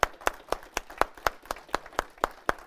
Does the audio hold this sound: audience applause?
yes